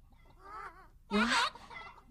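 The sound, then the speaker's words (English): Chickens cluck in a short burst, with a softer warbling call followed by a louder, sharp squawking cluck, then quieter clucking trailing off. “Oh, it's a herd of chickens! And they're rocking this way!”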